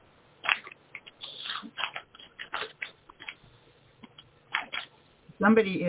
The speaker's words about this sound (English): Somebody is doing something in the background or scratching paper or something, and it's disrupting.